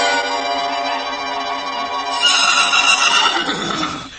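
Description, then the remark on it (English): Six white horses in golden harness with ribbons in their manes, hitched to a carriage, neighing loudly: one long harmonic whinny that turns brighter and shriller partway through, then quavers and trails off over about four seconds. No one speaks. “Six white horses with golden harness and red and blue ribbons in their manes.”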